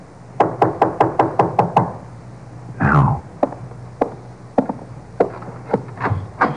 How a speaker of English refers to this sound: Let him knock again.